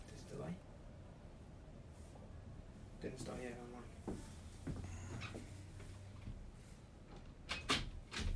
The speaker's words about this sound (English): you can close this door.